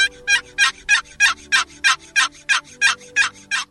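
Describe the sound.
A steady run of about a dozen sharp turkey yelps played on a friction call with two fingers and light pressure on the edge of the call, evenly spaced at roughly three per second, loud with no talking.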